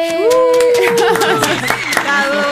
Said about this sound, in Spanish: Y también, aplausos, sí,